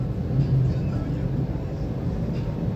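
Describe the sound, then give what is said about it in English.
Motorcycle engines of a group of riders, men about 50 years old, riding around a gas station rumble in a low, steady drone, with a slight swell in loudness early on and no clear spoken words over the noise. “And these guys are like 50 years old trying to get attention on their little motorcycles.”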